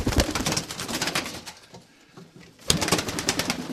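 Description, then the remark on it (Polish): Pigeons kept in a village coo and flutter, a dense flock sound with rustling wings that thins out briefly in the middle before swelling back up loudly; no one speaks. “Kiedyś to kradli, to zamykali te gołębie, teraz to już nie ma, nie kradną, bo tak to było zamknięcie lepiej jak koń.”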